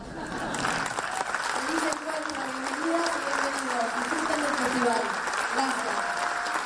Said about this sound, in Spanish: Un fuerte aplauso para despedir a Albertina Carri.